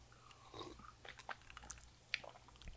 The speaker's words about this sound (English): Let the sips decide. Sip time.